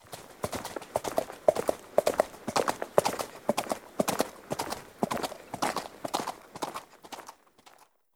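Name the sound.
horse hooves clip-clopping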